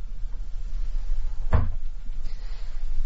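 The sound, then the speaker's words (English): A door that was ajar is pushed open with a single short wooden knock and thud midway through, over a low steady rumble, with no talking. “Eve's door was ajar.”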